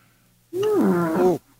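A single loud, growling lion roar sound effect lasts about a second, starting abruptly and cutting off cleanly, with a dipping, gravelly pitch and no voices around it.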